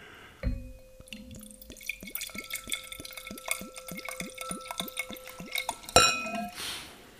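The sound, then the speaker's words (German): Apple juice pours into a glass in a steady run of rhythmic glugs, ending with a sharp clink as the bottle touches the rim. No one speaks. “Mal hören, ob der Apfelsaft anders klingt als der Wein.”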